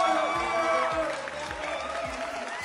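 An audience applauds in a steady, dense wash of clapping that holds at an even loudness for a few seconds, with some murmured voices and tonal sounds mixed underneath.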